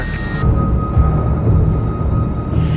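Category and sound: nature, thunder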